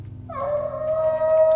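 A wolf howl swells in and holds one long, steady, mid-pitched note with rich overtones, carried over a low, rumbling background. No one speaks.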